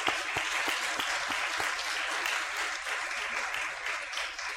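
A steady burst of applause from a crowd, dense overlapping clapping that holds at an even, fairly loud level for several seconds with no voices on top.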